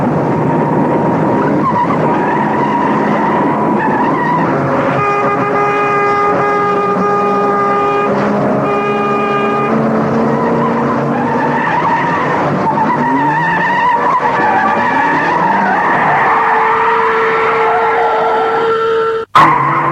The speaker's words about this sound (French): Durant le trajet, la voiture ne répond plus à ses commandes. La secrétaire est paniquée. Elle ne sait ce qu'elle doit faire. La voiture ne répond plus. Elle roule à une vitesse folle.